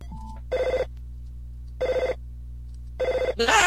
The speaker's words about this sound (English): What's that? It's the phone, you idiot! Pick it up! My dad gets mad if I don't get it by the third ring!